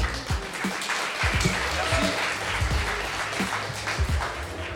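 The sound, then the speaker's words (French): An audience applauds DJ Djel live on Radio Grenouille 88.8, a dense patter of many hands clapping at moderate volume, with a few louder claps and some background voices mixed in. “DJ Djel, s'il vous plaît, vous pouvez l'applaudir.”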